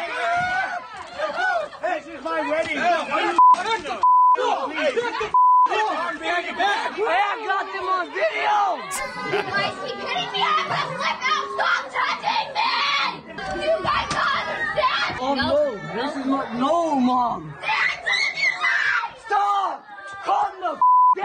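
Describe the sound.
A bride screeches and yells during a wedding brawl at a Quality Inn in Barstow, amid a chaotic crowd of loud, overlapping shouting voices, with a few short censor beeps cutting through the commotion.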